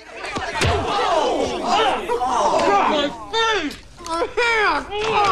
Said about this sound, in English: punches him on the jaw.